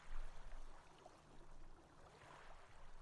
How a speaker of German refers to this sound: Stell dir vor, du blickst auf einen See. Die sanften Wellen plätschern ans Ufer, kommen und gehen.